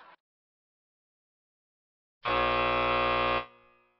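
A loud, harsh buzzer blares once for about a second, a flat sustained tone with a rich, rasping texture that cuts off abruptly and trails into a brief fade, after a short silence.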